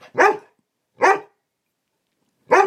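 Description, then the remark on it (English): A female dog barks three times, loud, with short gaps between the first two barks and a longer pause before the third. No one speaks over the barks. “Barking at me now. Well, be careful. Yeah. Dog, you got bad breath.”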